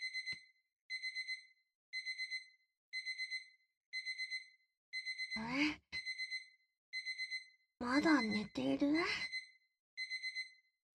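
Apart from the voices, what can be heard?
alarm clock ringing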